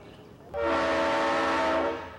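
A loud train horn blares suddenly and holds a steady chord for over a second, with the rumbling roar of the passing train beneath it before it fades slightly.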